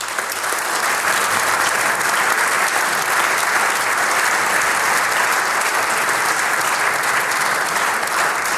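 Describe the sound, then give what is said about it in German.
Steady, sustained applause from an audience, sent over the radio as a greeting to an injured man who could not take part, a dense wash of clapping hands that holds at an even, fairly loud level for several seconds with no voices standing out. “Ich glaube, wir schicken ihm, auch wenn er dann schon wieder zu Hause ist, per Radio einen netten Gruß mittels Applaus nach Hause.”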